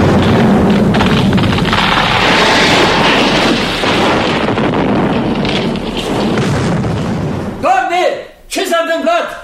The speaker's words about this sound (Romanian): Explozie! Dumnezeule, monarhul barbarie a fost asasinat!